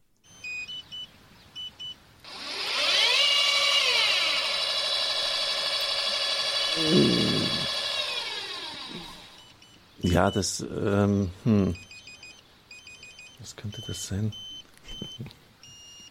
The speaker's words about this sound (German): wenn wir bei unserem Übertragungswagen die Satellitenschüssel ausklappen und die Schüssel sich dann in den Sender sucht